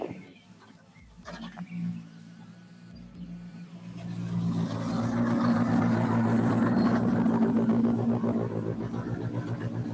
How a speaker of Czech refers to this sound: Zatím nám ještě v cíli nejsou, a už ano, tak je to dobré, další auto, které je v pořádku v cíli druhé rychlostní zkoušky.